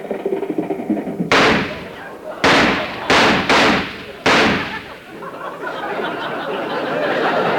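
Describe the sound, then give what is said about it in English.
Five sharp gunshots, fired by a parking attendant in the Warner Brothers studio lot, ring out in an uneven burst, each a loud crack with a short tail, followed by a rising murmur of background noise. “Say, that sounded like gunshots.”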